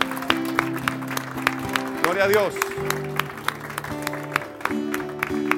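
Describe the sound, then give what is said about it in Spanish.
A church audience claps steadily in a loose rhythm, applauding God, over sustained keyboard chords, with a voice briefly calling out in the middle of the applause. “Dale un aplauso a Dios, pastora.”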